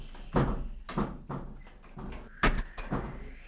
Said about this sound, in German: Die Türen und Fenster begannen zu rattern.